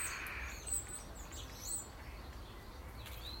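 Faint, high blackbird calls chirp intermittently in a garden, a few short tweets scattered over a steady low background hum, with no one speaking; a blackbird lands in the grass with a beak full of food.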